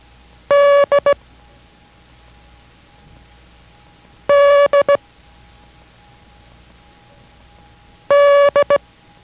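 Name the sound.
morse code tones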